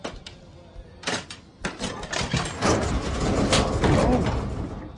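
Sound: door being opened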